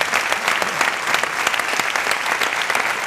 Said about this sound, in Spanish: aprovecho para dar las gracias a todos y todas las oyentes que han venido a compartir esta tarde de radio. Así que nos aplaudimos mutuamente.